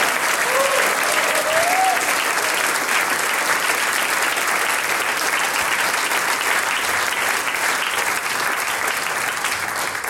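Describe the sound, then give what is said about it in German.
Sustained audience applause at a singers' and musicians' gathering, for performers who played two harmonicas and a harp, fills the whole stretch: a loud, dense wash of many hands clapping at a steady intensity, with a brief rising whistle early on and no clear speech. “Eine gute Mischung, der Applaus gehört euch.”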